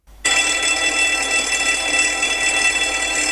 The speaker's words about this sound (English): Let's have a listen to the BBC Radio fire alarm before that present one.